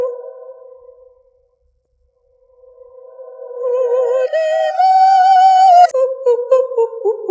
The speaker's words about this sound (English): Loop. Woohoo! Echo! It's not really an echo, it's a reverb! But it's fun.